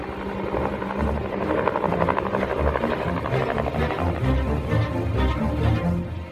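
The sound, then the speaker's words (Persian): Enemy supply helicopters pass a short distance from a hill, their rotors thumping loudly and steadily close by, a continuous low chopping drone with a buzzing whine layered on top, holding strong throughout with no voices. “بالگردهای تدارکاتی دشمن به فاصله کمی از کنار تپه ما میگذشتند.”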